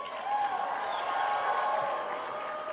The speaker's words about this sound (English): Everyone should be cheering at that.